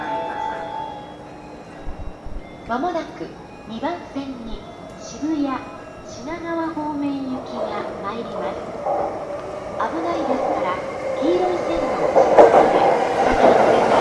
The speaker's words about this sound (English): Okay, that's not our train, that's on another track, but our train is coming on this one.